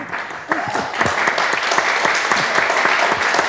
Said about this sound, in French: À la régie, et qui les a poncés un à un, on peut quand même l'applaudir pour ça.